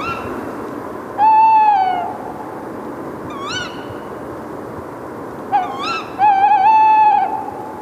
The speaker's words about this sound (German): Man würde ja meinen, dass bei den Eulen es nicht besonders viele Lautäußerungen gibt. Da täuscht man sich aber. Es gibt dann pro Eulenart doch ein ganzes Spektrum.